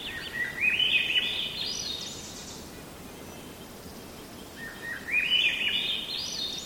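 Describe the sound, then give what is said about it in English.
A Swainson's thrush sings two clear, flutelike phrases that spiral upward in pitch, separated by a few seconds of quiet, over a steady outdoor hiss. “It's unlikely we'll see a Swainson's thrush. They're secretive, but it won't be long before they'll break into song.”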